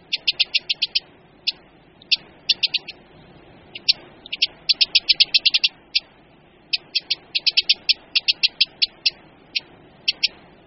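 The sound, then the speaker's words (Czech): A Eurasian wren's sharp, dry ticking alarm calls, repeated rapidly in irregular bursts of clicks, with no talking. “Pokud mu vstoupíme do jeho obsazeného revíru, dokáže se nápadně hlasitě rozčílit a ozývá se typickým varovným hlasem.”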